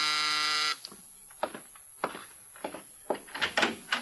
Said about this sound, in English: Now Mike is in his apartment when the door buzzer sounds.